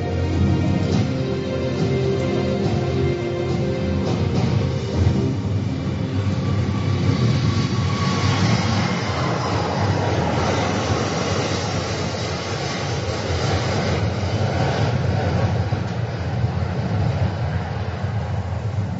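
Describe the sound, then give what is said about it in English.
A steady, loud roar of four Rolls-Royce jet engines, each delivering 72,000 pounds of thrust, as a massive four-engine aircraft takes off: a broad rumbling wash with a faint whine above it, holding constant for about nineteen seconds with no voices. “Four Rolls-Royce engines, each delivering 72,000 pounds of thrust to lift the massive aircraft almost noiselessly off the ground.”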